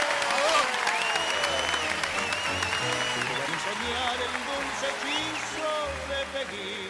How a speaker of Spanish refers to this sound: este aplauso es para vos. ¡Muy bien!